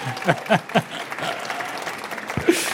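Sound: audience clapping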